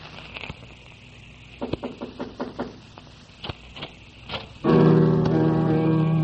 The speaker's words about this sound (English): So southward through Germany traveled Grieg to knock at the monastery door where Liszt received the world.